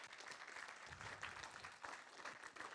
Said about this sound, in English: Y'all give him a better hand clap than that.